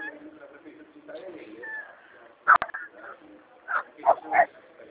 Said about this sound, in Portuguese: A senhora pode segurar esse cachorro? É uma delícia chegar em casa e escutar o latido deles. Não, mas não é meu não, é da vizinha.